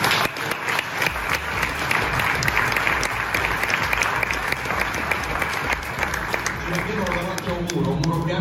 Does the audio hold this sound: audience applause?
yes